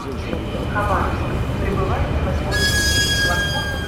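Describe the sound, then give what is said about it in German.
A Trans-Siberian railway train at Khabarovsk station in Russia, with a steady low rumble and indistinct voices; partway through, a high, sustained metallic squeal of wheels or brakes rises sharply and continues. “Khabarovsk, erster großer Bahnhof der Transsib nach Wladiwostok und Endstation für eine Studentin.”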